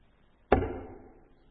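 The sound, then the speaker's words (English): A single sharp clang, like silver coins dropped and striking together, hits suddenly and then rings down over about a second, with no voices around it. “And then hear the clang of the silver.”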